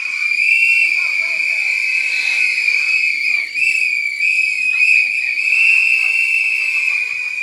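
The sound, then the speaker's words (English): An audience blows shrill whistles together to answer a show-of-hands poll, a loud, sustained, overlapping chorus that fills the whole stretch, with faint murmuring voices underneath. “Does anybody, can you blow your whistle if you comfortably, happily use sex toys with your partner?”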